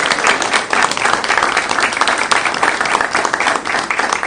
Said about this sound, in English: So how about a nice round of applause for her?